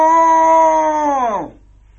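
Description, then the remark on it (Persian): A human voice imitates a cow's moo as the cow calls out while searching the desert for Curly Wool in a story, one long sustained low tone that holds steady and then slides down in pitch as it fades out, fairly loud with no other sounds. “مثلا گاو می گفت: ما ما.”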